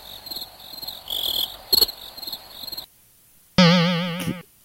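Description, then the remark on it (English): A cricket sound effect chirps steadily in high-pitched pulsing trills for about three seconds, then stops. After a short silence a loud, wobbling, springy boing-like tone follows briefly. “Where's the cricket sound? Yeah, there you go.”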